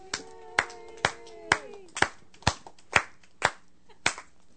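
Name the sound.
audience applause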